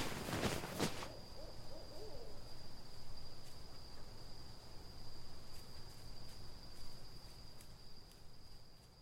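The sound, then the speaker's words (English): A faint owl hoots a few times in the distance over a steady, high-pitched drone of night insects, with a soft rustle at the start and a low rumble of wind. “Here there was only insects and wind, and every so often a hoot of a distant owl.”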